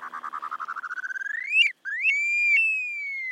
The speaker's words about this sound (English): At number three, the upland sandpiper.